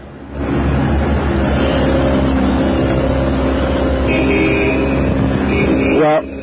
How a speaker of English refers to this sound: An automobile just went by. Okay, let's put this on hold for just a second until that car goes away, because that's kind of ruining things. Okay, the car is going away now. A loud car if I ever heard one.